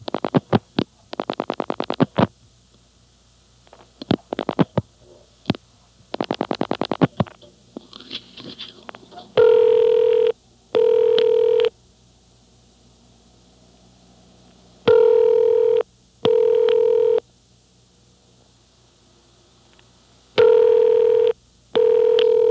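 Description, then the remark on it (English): A telephone number is dialed, including the digits 5 and 6, with several quick bursts of clicking pulses, then a loud, clear double ring tone repeats three times with pauses between. No one speaks. “Okay, now dial 5, 6. Four more digits.”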